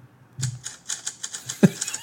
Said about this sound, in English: Each typewriter has its own like thing. When I got it, the first thing I wrote, I just wrote the word broccoli like 17 times with my typewriter. I'll show you. I don't have it. It also... Okay. It makes a sound. Do you hear that? Oh, yeah.